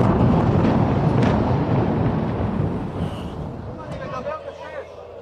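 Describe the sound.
Heavy, deep rumbling from missiles exploding right next to a rooftop, during an attack of roughly 180 missiles fired at Israel in several waves, fills the first few seconds, loud and continuous, then gradually fades as faint voices emerge over the dying roar.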